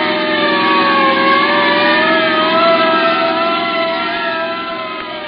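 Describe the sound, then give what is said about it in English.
A police car races off with its siren wailing in rising and falling sweeps over a steady, revving engine, loud throughout before easing slightly at the end, responding to a signal 7 call at Logan and Walker, 4 miles away. “That's us, Jerry. Yeah, and it's 4 miles from where we are. Step on it.”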